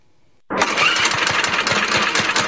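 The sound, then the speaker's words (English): A small lawnmower engine sputters to life after a brief silence, then keeps running in a loud, steady drone with a rapid pulsing rhythm, with no voices. “Summer is tough on lawnmowers.”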